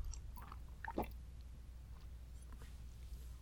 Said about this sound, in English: Excuse me, give me a second, let me get a drink of water here.